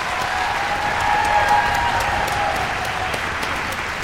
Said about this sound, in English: How about a round of applause for the orchestra and their conductors?